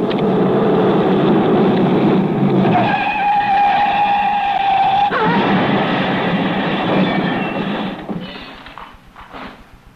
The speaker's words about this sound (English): Reported in stolen car. Large green Daimler speeding south.